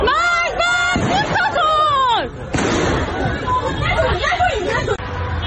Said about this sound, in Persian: اینجا رشت و شنیده شدن صدای تیراندازی.